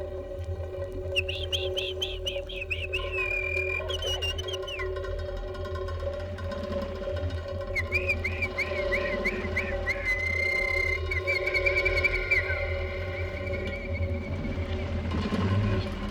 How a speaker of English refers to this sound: From February until early July, the male bird sings a rocking little song with great gusto, and it ends very abruptly.